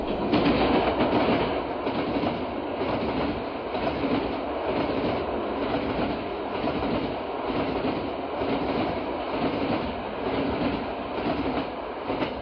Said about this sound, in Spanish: Trenes. Para mí, definitivamente, el mejor modo de viajar es en tren.